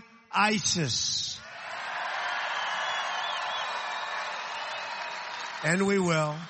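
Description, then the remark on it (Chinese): Supporters cheer steadily for several seconds at a Donald Trump rally on his post-election national thank-you tour, as he introduces his defense secretary pick, retired general James Mattis. It is a dense roar with a few whistles, bracketed by brief bursts of a man's amplified speech at the start and end. “川普向欢呼的支持者们介绍了他提名的国防部长人选，退役将军绰号疯狗的詹姆斯·马蒂斯。”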